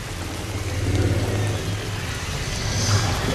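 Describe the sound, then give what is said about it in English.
Water drips and patters steadily in a tunnel, falling continually onto a man's head and gun, a dense wash of small droplets over a low, constant rumbling hum, with no voices. “Water continually drips on his head and gun.”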